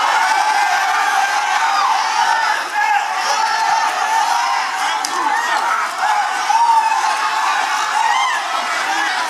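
A large crowd shouts and cheers continuously, a dense wall of overlapping voices and whoops that stays loud and steady throughout, with occasional louder swells.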